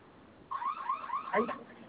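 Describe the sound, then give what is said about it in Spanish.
A store's general security alarm, sounding throughout the store, starts abruptly after a brief quiet moment, blaring warbling electronic tones that rise and fall, heard through a narrow, phone-like channel, until silenced by entering a code on the alarm keypad. “Se silencia la alarma general que se activa en toda la tienda y posterior se activa la de su de su teclado de alarmas.”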